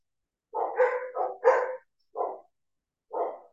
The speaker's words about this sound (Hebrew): אני לא יודעת אם אתם שומעים את הכלבים שמצטרפים אליי לאיחולים, הם לגמרי חלק.